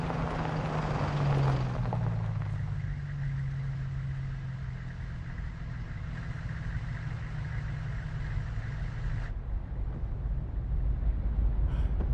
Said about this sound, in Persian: پهپاد پشت سرتون دارم میفرستم.